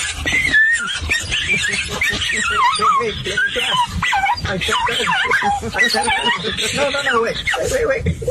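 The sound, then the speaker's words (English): An excited dog in a car arriving at a dog park whimpers and yips continuously, with high, wavering whines and short barks, while people talk over it. “Oh, he's an adorable dog.”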